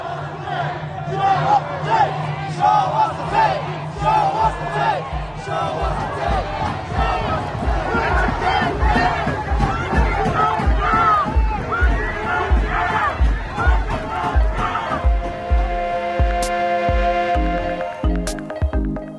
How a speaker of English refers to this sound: in Los Angeles on Sunday, a crowd of hundreds marched to the Compton Sheriff's Station to demand justice for Andres Guardado.